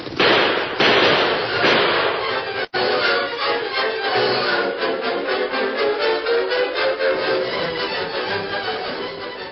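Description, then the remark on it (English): Rapid, rhythmic hoofbeats of galloping horses, Silver and Scout, ridden by the Lone Ranger and Tonto, clatter steadily and loudly, a dense run of sharp thumps that keeps pounding across the whole stretch, with no voices. “it's horses.”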